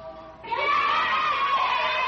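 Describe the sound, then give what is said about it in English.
A steady tone gives way to a loud crowd of children yelling and shrieking together on hearing the dinner bell, a dense, high-pitched clamour of many voices that holds steady for well over a second. “Ah, you hear the children yowl when they hear the dinner bell.”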